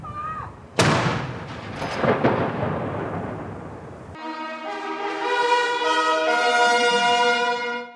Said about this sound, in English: The new king processing behind his mother's coffin in lockstep with his siblings along Edinburgh's cobbled Royal Mile. The silence only broken by royal salutes and gunfire, one a minute from the city's iconic castle.